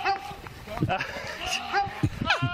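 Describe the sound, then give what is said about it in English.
A goat in Oklahoma lets out a few loud, wavering cries that sound eerily like a human screaming for help, with pitch sliding up and down between bursts and a low rumble of background noise underneath. “but it turns out to be a goat”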